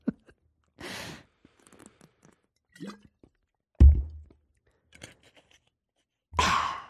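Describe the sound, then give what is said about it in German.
Someone takes a sip of water: a breathy exhale, scattered soft clicks and swallowing noises, a dull low thunk midway, then a final long sigh-like breath. No one speaks. “Ja, ich muss erstmal einen Schluck Wasser trinken.”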